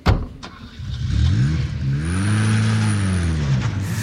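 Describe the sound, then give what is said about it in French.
A car engine revs up with a rising, then steady roar as the vehicle pulls away, loud, with no voices over it. “Monte dans cette bagnole.”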